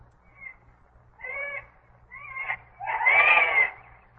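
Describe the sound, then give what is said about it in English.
A jay gives a series of four harsh, screechy calls that grow louder and longer, the last one the loudest and raspiest, over a steady low hum. “That's a jay. Not my kind of bird.”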